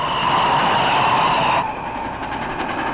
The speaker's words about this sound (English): Looks like the train headed for Valley Ho. Well, hello, train, and goodbye!